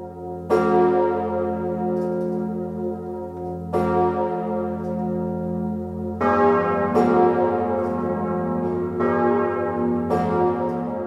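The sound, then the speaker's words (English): Emmanuel, the largest cathedral bell, named by King Louis XIV, tolls slowly with a deep, booming sound and long ringing decay. Partway through, the other bells join in, layering brighter overlapping peals over the low resonant hum. “Well, so let's hear some of the music, and we'll start with the bells.”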